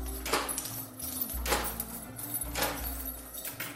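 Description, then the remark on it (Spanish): Several heavy knocks strike a wooden door at an entrance to a walled compound, spaced roughly a second apart, over a steady low hum, and the door moves open among the thuds. “Golpeo con fuerza la madera y la puerta se abre.”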